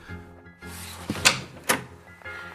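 A door is unlatched and pulled open: a soft thunk, then two sharp metallic clicks about half a second apart over a low background hum. No one speaks.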